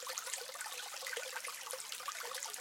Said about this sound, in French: Donc indéterminé, pour nous, ce n'est pas satisfaisant, surtout quand on est sur un petit ruisseau avec de telles caractéristiques.